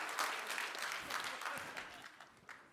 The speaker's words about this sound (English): That's okay. Applaud wildly. I know. Applaud wildly.